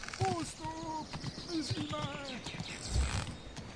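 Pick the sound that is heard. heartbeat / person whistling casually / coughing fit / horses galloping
horses galloping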